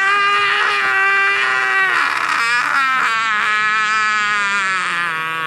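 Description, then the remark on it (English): A novelty toy called Screaming Pete screams nonstop in a loud, piercing, warbling shriek that wavers in pitch, sustained for the full few seconds without any break or talking over it. “So what he does is he's just going to keep screaming.”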